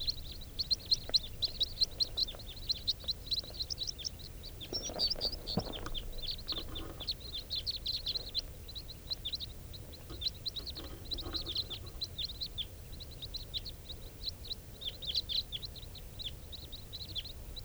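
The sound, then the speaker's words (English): A big flock of type 4 birds flies over, calling continuously with many short, overlapping high chirps repeating rapidly and fairly loudly throughout, over a low background rumble. No one speaks. “And I hear a big flock of type 4s.”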